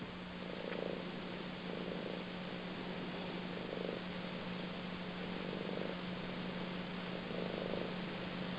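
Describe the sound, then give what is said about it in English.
A cat that has just jumped onto a person's knee purrs in a steady, rhythmic rumble, each breath cycle swelling softly about once a second over a faint constant hum, with no talking. “Well, something feeling a bit playful because my cat's just jumped on my knee and is purring, and it's sort of saying it needs that.”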